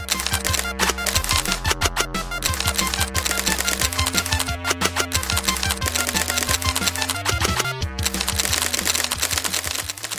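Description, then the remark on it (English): A teletype printer chatters away steadily as 20 or 30 feet of paper comes out of it, its rapid mechanical clacks and strikes riding over a constant motor hum, loud with no voices, running without pause. “Next morning, wake up and look around, and over there in one of those teletypes, there's 20 or 30 feet of paper coming out of it, showing how somebody has snuck into my computer, used an account, found a hole in our operating system.”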